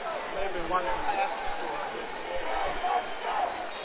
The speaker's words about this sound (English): Crichton crowd starting to holler.